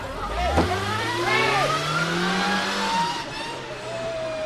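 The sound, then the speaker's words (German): A car engine revs hard and climbs in pitch, accelerating loudly in reverse as the driver flees from a blocked street, with a brief tire squeal, while faint voices murmur in the background. “Der will mit dem Auto fliehen, aber die übereifrigen Schweizer Hilfskommissare versperren die Straße, sodass nur der Weg nach rückwärts bleibt.”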